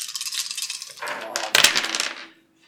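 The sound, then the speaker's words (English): Dice rolled for a pushed observation roll in a tabletop role-playing game clatter and tumble across a hard tabletop in a busy rattle, with a sharper burst midway before the pieces settle and go quiet. No one speaks. “5 dice and 3 points.”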